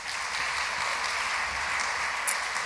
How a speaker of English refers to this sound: I won't thank them all, but needless to say, we appreciate your support. If you give them a round of applause as well, please.